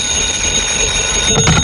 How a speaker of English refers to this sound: Your number is ringing, Mr. Dollar.